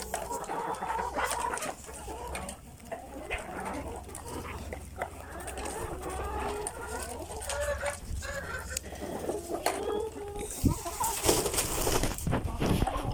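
Hens cluck and chatter steadily as they peck at feeders, a busy overlapping flock sound with soft scratching and rustling underneath, ending in a louder burst of flapping and noise.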